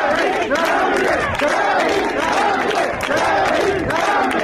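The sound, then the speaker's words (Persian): A dense crowd at the burial of Zaniar Abubakri in Bagh-e Ferdows cemetery fills the air with loud, overlapping voices, rising and falling cries and chanting that swell in repeated waves without a pause. “پیکر زانیار ابوبکری در همهمه قبرستان باغ فردوس ساعتی بعد در کنار مزار کبرا شیخه که او هم همان روز جان باخت در حضور جمعیت به خاک سپرده شد.”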